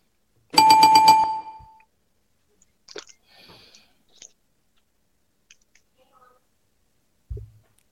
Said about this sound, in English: the bell.